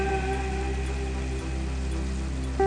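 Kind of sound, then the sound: nature, rain falling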